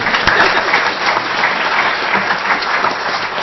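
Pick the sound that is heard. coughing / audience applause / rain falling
audience applause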